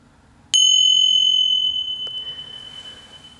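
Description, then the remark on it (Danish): A meditation bell is struck once as a demonstration of the signal that starts and ends each mindfulness meditation, ringing out bright and high-pitched, its clear tone lingering and slowly fading over several seconds, with a faint extra tap partway through and no talking. “Når en meditation starter, og når den slutter, vil du høre en klokke af en lyd, og jeg giver dig lige en demonstration på den her.”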